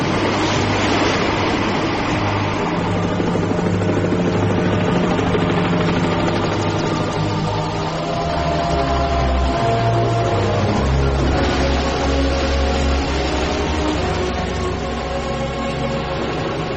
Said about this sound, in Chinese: 漆黑的海面上突然出现了一条光柱，随即在风浪声中隐隐传来了引擎轰鸣声，那是海军应邀派出的直升机赶来了。